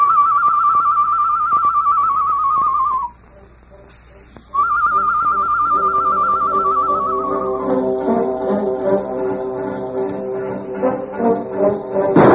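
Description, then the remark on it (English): Tonto imitates a bird call with a loud, warbling whistle in the darkness: two long trilled notes on a steady high pitch, split by a short pause, then wavering layered tones take over. “Me make bird call, huh?”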